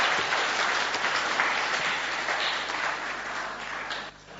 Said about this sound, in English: Okay, right, can we have a round of applause for everybody? You can go back to your seats.